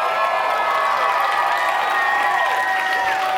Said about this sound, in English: Hooray, shouted the people of Lower Train Switch and jumped up from their hiding places.